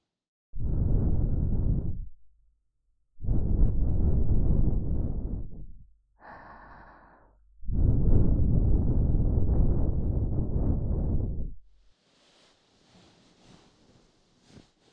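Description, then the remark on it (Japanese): Three long, soft breaths gently blown into the listener's ear after ear cleaning, each a breathy rush lasting a couple of seconds, with brief quiet pauses and a faint rustle between them. “続いてシャロがご主人様のお耳に吐息をかけて差し上げます。”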